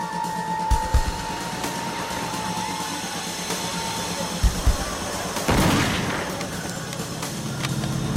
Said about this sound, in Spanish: Salí corriendo por la puerta y luego oí otro disparo.